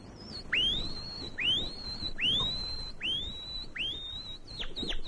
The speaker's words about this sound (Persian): ولی الان که با همیم گفتم بیایم یه نگاهی به این قناریای خوشگل و خوش صدا بندازیم. چه صدایی، چه صدایی. اینا همشون قناری هن عزیز جون؟ بله عزیزم، صاحب این مغازه فقط قناری پرورش میده و میفروشه.